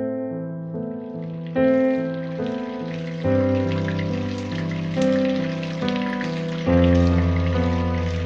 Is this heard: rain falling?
yes